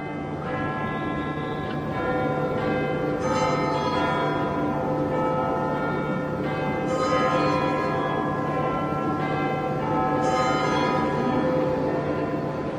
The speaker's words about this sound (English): And so in a sense, this is the sound right here of not only Big Ben chiming, but of all the people of London, in a sense, listening.